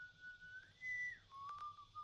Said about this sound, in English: It's almost pitch black. An eerie whistle signifying danger is heard throughout.